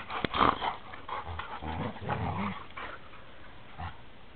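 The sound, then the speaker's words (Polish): Dogs growl in low, rumbling bursts over a few seconds, starting with a short sharp yelp-like sound, with no one talking. “Kto was tworzy, drogie psy?”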